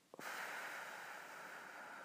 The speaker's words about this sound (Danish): Så tager jeg en dyb vejrtrækning.